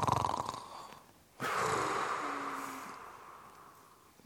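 snoring

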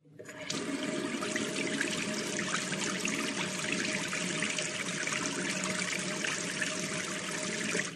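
tap water running

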